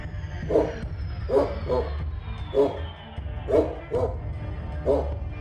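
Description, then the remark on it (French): A dog locked in a crate in the middle of a corridor barks repeatedly in steady, evenly spaced bursts, about six barks over a few seconds, moderately loud over a low rumbling background hum. “Les hommes sont prêts à tirer, le chien enfermé dans sa case au milieu du couloir.”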